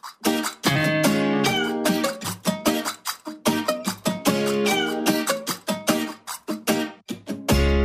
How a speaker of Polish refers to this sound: Prosiak tam wystąpi w tle. Tak, kot świętej pamięci. Tak. Cudownie. Kot świętej pamięci Prosiak wystąpi na początku i przewinie się jeszcze kilka razy później.